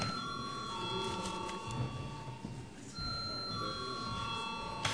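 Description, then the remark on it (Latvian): A parliament chamber bell rings continuously for the whole stretch, a steady, loud electric jangle whose tone shifts slightly partway through, over a faint murmur of the room, signalling a vote on a bill in its second reading. “Tātad lūdzu apstiprināt šo likuma projektu otrajā lasījumā. Paldies, lūdzu zvanu.”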